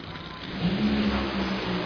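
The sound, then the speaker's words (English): Loud, roaring drag racing engines surge and accelerate in a sustained, dense blast of noise, with a rising engine tone as the cars launch hard down the strip at an NHRA drag race in Seattle, with John Force racing for his 150th win. “They leave within 0.002 seconds.”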